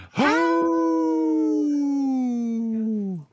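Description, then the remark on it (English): A band member lets out a single long, loud wolf-like howl, a steady sustained tone for about three seconds that slides downward in pitch as it fades out. “Yeah, we need a wolf in our band, yeah.”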